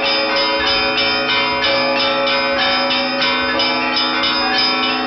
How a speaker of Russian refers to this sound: В ходе небольшой тренировки стало понятно, одному, не имея достаточных навыков, управлять этим колокольным оркестром довольно непросто. Но как только пришел на помощь опытный служитель, с высоты колокольни на всю округу полился праздничный благовест.